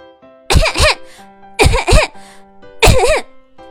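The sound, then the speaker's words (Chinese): Three loud bouts of choking coughs, each a quick pair of hoarse, voiced hacks, separated by short pauses with faint breathing and no speech, caused by dust raised when a rolled-up blanket fell from a tall storage cabinet. “这不，啪嗒一声，卷成卷的毯子从高高的储物柜上掉了下来，扬起一阵灰尘，把刚好路过的板凳小六呛得直咳嗽。”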